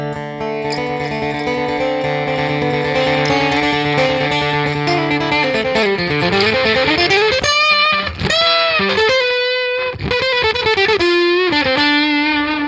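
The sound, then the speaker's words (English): An acoustic guitar with its distortion ramped up and then brought all the way down, sustained chords whose pitch sweeps down and back up in a wide swooping arc, followed by choppy, sliding notes with brief gaps. “you could have clean, and then you could put a little bit of distortion. And we could ramp it up. And then, you know, all the way down.”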